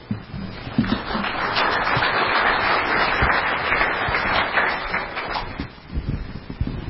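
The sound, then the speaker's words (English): A crowd breaks into sustained applause for a speaker who is a Packer, a dense wash of many hands clapping at once that holds steady for several seconds before tapering slightly near the end. “Clap for a Packer. I appreciate that. Don't get that too often.”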